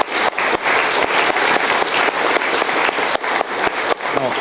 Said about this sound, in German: Also mal kurz Applaus ans VOG, dass die so coolen Stuff machen.